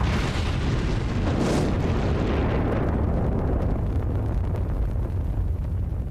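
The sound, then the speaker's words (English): A massive, sustained explosion of the MCP-01 gas riser on Piper, caused by rupture of the gas export pipeline holding 34 miles of pressurized gas, roars across the full range, a deep rumbling blast with a sharp flare near the start that slowly settles into a dense, crackling low-end roar. No voices. “The explosion of the MCP-01 riser was the biggest yet.”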